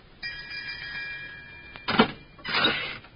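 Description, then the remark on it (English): A doorbell rings in one steady, sustained electric peal for about a second and a half, followed by a couple of short noisy bursts like a door being handled. “This must be the doorbell.”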